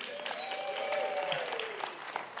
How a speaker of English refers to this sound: By the way, Pastor Jace did fantastic last week, didn't he? He's not here today, but he might watch this, so you should clap louder than that because he might be offended.